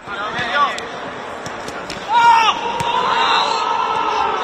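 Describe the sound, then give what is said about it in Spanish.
Real Madrid footballer Camavinga lets out loud, strained shouts, one short cry followed by a longer sustained yell, over scattered sharp thuds and the general bustle of Real Madrid's last training session at the National Stadium in Warsaw, recorded by Televisión Española cameras. “Ese es el sonido del grito de Camavinga que recogían las cámaras de los compañeros de Televisión Española en el último entrenamiento del Madrid en el Estadio Nacional de Varsovia.”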